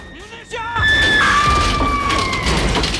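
A brief vocal cry gives way to a sudden, loud crash of a winged flying bicycle plummeting and slamming into a giant spider machine's cockpit platform, followed by sustained metallic clatter and a high, sliding screech.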